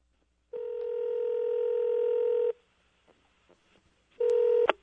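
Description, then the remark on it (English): A telephone rings with a steady electronic tone for about two seconds, then a pause with faint clicks, then a second ring that cuts off abruptly. No one speaks. “Maybe a phone call is in the offing from a son to a father next here on Le Show.”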